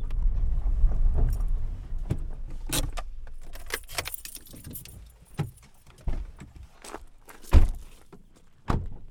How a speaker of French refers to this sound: C'est derrière le bâtiment, là. Ouais, j'entends la voiture, je crois.